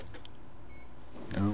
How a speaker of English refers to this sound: I heard the PC speaker beep.